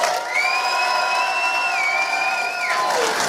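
A crowd claps and cheers in a steady, loud roar for about three seconds, with a sustained high-pitched shout riding over it that slides downward as the noise fades.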